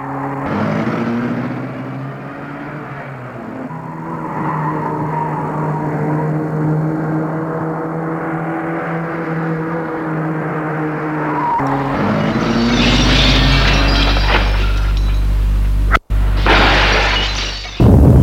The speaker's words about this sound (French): Lorsqu'ils ont fini de jouer, ils vont cogner la voiture contre un mur pour qu'elle brûle.